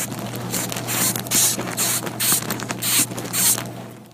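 A moth's sound: rhythmic bursts of dry, hissy clicking crackle repeat about twice a second, bright, over a faint steady low hum, with no voices.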